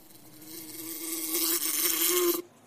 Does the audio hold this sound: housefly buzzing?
yes